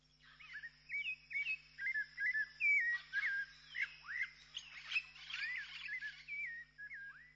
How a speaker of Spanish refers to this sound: Y después de los cantos de los pájaros en la selva maya